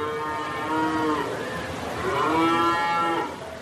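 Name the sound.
cattle mooing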